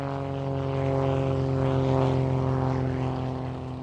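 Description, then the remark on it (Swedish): A propeller airplane drones overhead as it passes over a desert landscape, its steady engine hum with strong harmonic tones swelling slightly louder midway before easing off, continuous with no voices. “Inte förrän militära och civila piloter passerar över ökenlandskapet med flygplan under 1930-talet.”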